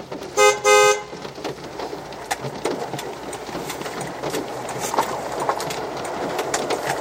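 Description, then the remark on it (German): A car horn is honked twice in quick succession near the start with no hazard present, loud, then the scene settles into steady street ambience with faint passing traffic and scattered clatter. “Hupen ohne Gefahrensituation.”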